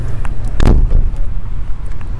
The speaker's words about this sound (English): Here we go. Leaving the car. This is good.